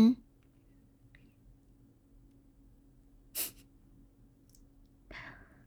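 Two heavy, breathy exhalations break an otherwise quiet stretch, a sharp one midway and a longer, rougher one near the end, with no talking.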